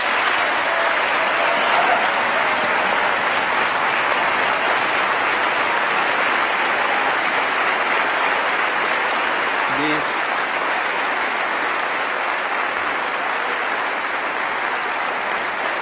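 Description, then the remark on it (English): Sustained applause from a large audience interrupts a speech, a dense steady roar of clapping that keeps going for the whole stretch, with the speaker's voice briefly trying to go on over it. “He tries to go on, but the clapping continues.”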